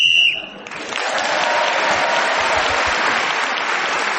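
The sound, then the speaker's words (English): A short, shrill whistle blast marks the end of a round in a points game while Clement Freud is speaking, quickly giving way to loud, sustained applause from an audience that continues to the end. “Whoever is speaking when the whistle goes gains an extra point.”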